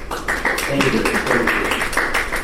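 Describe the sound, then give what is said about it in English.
Audience applause for the speakers: a steady, dense wash of many hands clapping for a couple of seconds, fairly loud, with some faint voice-like murmuring mixed underneath. “And let's give our speakers a big applause.”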